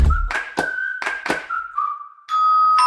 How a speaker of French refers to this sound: Mais qui sonne à la porte?